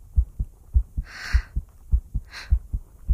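Hades's steady heartbeat thumps in a low, muffled lub-dub rhythm, repeating regularly, with two brief soft rustling swishes passing over it.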